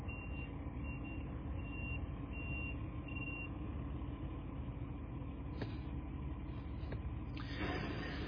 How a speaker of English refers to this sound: Wow, here comes a delivery truck.